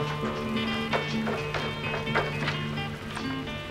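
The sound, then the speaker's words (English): A series of quick footsteps of a teen girl carrying a stock pot thuds down a staircase inside a library in an uneven rhythm, about half a dozen impacts, heard under a steady tonal musical background. “With the stock pot in hand, she goes down a staircase.”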